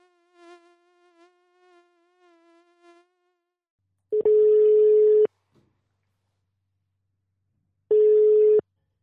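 A telephone ringback tone sounds twice as a call from Radio Fyris connects: two loud, steady electronic buzzes about a second long, separated by a silent gap, after a softer, wavering tonal drone.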